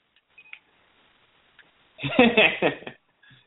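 A few faint, quick electronic beeps, then a louder burst of warbling, chirping telephone switchboard tones lasting about a second before a short final blip.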